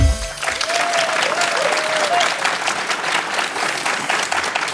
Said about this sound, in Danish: Ja, som man måske kan høre, er det her ikke en helt almindelig udgave af anmelderne. Vi sidder nemlig på DR-scenen til Bogforum i Bella Centret i København. Det er lørdag den 2. november, det er formiddag, dørene er lige åbnet